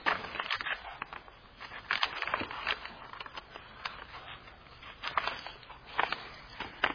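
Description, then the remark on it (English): Paper rustling and crinkling as book pages are turned to Psalm 27, a run of soft, uneven crackles and swishes with several sharper flicks, heard on its own without talking. “I've had trouble turning the pages of these.”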